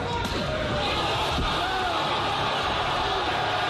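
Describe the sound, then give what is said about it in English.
A heavy open-hand slap by a 220-pound man on a 260-pound man lands with a sharp smack, knocking him to the ground, followed by a second fainter impact, nearly swallowed by the loud, constant roar of a crowd. “That's a 220-pound man slapping a 260-pound man.”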